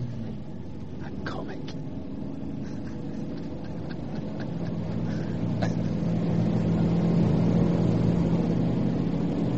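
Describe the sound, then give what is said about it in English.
A motor car engine drones steadily while driving, with someone clinging to the outside of the car, a low rumbling hum with a pitched tone that grows gradually louder, with a few faint clicks early on. “I cling to your motor car”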